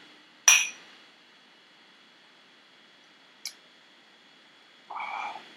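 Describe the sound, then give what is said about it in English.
A single bright clink of glasses touching in a toast over 100-proof barrel-aged spirit, with a brief ringing tone, followed later by a faint small tap and a soft, short rustling noise near the end; no one speaks. “Cheers.”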